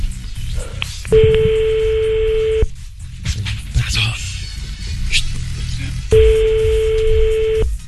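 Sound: telephone number being dialed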